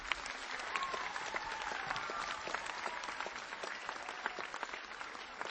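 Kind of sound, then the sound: crowd, warm audience applause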